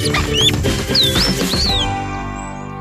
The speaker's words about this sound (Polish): Kolejnym gatunkiem, który o tej porze możemy spotkać w zimie i w ogóle to jest jeden z liczniejszych ptaków, jeden z takich, którego się da obserwować i myślę, że wszyscy znają tego ptaka. Mówi się na nie sikory.